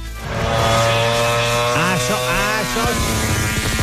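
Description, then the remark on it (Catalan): A high-revving MotoGP motorcycle engine screams loudly and continuously, its pitch climbing and dropping with sharp throttle blips, without talk. “El tio s'ha guardat la moto bona per la careta de MotoGP.”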